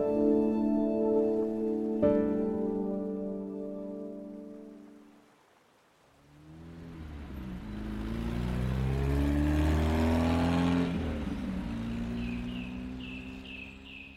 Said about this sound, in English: I want to wake up someday and realize that it's been years since I heard the constant rumble of traffic.